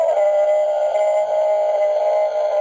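A sustained, steady electronic howl from the small speaker of a battery-operated Archie McPhee Emergency Bigfoot call toy, holding one droning tone with bright buzzy overtones, loud and continuous for a couple of seconds with no talking.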